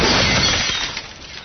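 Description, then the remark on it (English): A large glass coffee table shatters loudly, a dense burst of breaking glass that sprays and tinkles, then thins into scattered shards settling over about a second. “Now a stylish glass coffee table.”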